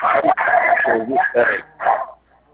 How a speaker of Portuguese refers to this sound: Alô, cachorro! É o homem que tá escravo, meus bichinhos estão latindo.